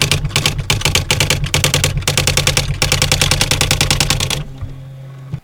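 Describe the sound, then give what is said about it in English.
Rapid, evenly spaced mechanical key strikes from an electronic typewriter, played as a keyboard sound scheme, loud with a low motor hum underneath, hammering in quick bursts for about four seconds before stopping, leaving the hum briefly. “Electronic typewriter.”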